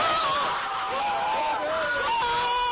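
woman screaming excitedly

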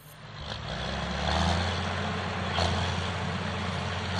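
tractor engine running

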